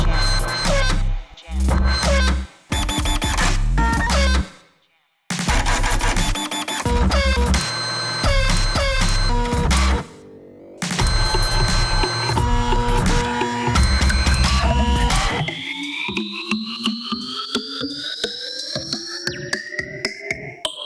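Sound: printer jamming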